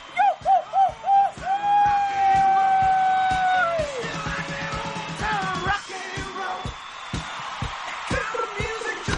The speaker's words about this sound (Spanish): Así que no sean tímidos, no sean tímidos, no sean tímidas. Y griten conmigo, ustedes pueden. 3, 2, 1.